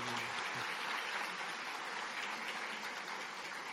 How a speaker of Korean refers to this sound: 네, 위에 계시, 4층에 계십니다. 우리 예, 박수로 우리 환영하겠습니다. 잘 오셨습니다.